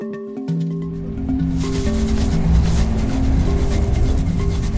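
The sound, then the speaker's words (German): The Bergensbane train, the railway linking Oslo with Bergen in Norway, rolls through a snowy winter landscape, whirling up snow, with a steady low rumble and sustained humming tones, joined after a moment by a louder, rushing hiss that stays constant. No one speaks. “Sie bahnt sich ihren Weg durch die Winterlandschaft, die Bergensbane, so heißt die Eisenbahn, die Oslo mit der zweitgrößten norwegischen Stadt Bergen verbindet.”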